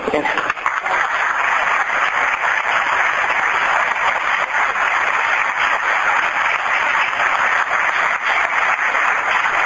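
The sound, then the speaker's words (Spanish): An audience breaks into sustained applause for guest speakers on self-management, a dense, steady roar of many hands clapping at once that holds at an even, fairly loud level for the full ten seconds without fading. “Y os pido un aplauso para ellos.”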